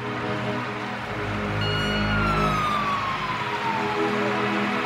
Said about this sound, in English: As I went by the fire station, fire trucks are coming out. Now the question in my head is, why are all these fire trucks leaving?